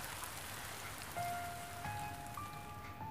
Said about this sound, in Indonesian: Tidak ada apa-apa. Hanya ada hujan dan pepohonan serta 250 juta daun yang berserakan.